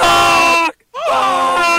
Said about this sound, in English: That's what a goose sounds like when they're flying. They're letting you know they're up there.